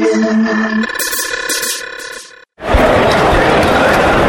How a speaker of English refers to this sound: The crowd is getting ready. They've got their lanyards on. There's a bit of clapping going on. Here we go. They're counting down. Counting down. They're getting restless.